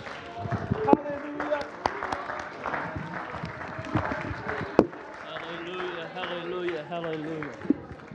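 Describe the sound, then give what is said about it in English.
A church audience claps their hands in praise to God during an evening service, a dense, steady wash of applause with sharper individual claps standing out, while voices call out and cheer underneath. “Let's give God a hand clap of praise in this house tonight.”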